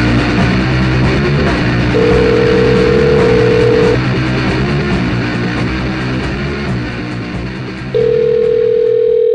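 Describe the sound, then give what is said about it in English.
A steady telephone dial tone sounds in two long bursts, about two seconds each and spaced apart, over a constant low rumbling background like a running engine. No one speaks. “We'll now segue into a possible phone call.”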